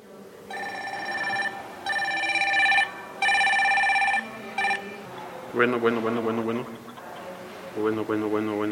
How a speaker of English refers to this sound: The sound of a mobile phone is routine in much of the world, but it's a recent arrival here in Talea de Castro, a mountain town in the southern state of Oaxaca, Mexico.